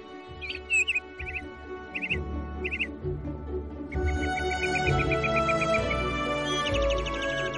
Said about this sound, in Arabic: ما أجمل الهواء الطلق وأصوات العصافير، كم تشنف الآذان.